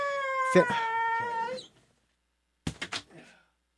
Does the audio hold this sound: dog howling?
yes